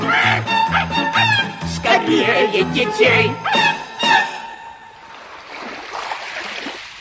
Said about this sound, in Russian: Ну, позвольте, я слышу, волны гудят. Неужели море? Неужели море?